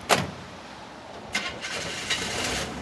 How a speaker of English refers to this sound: And you see why I drive an old truck? I can't afford a new one. What kind of truck is this? This is a 1981 Chevy. She still runs pretty good.